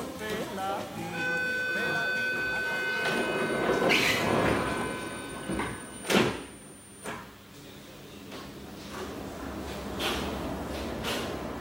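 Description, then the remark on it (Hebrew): A subway train of the Haifa metro hums with a rising electric whine, punctuated by a couple of sharp whooshing thumps like sliding doors. Muffled voices murmur in the background. “כן, החיים בפריפריה לא קלים לפעמים, אבל לפחות יש לנו מטרו אמיתי, כמו בלונדון, בפריז, בניו יורק.”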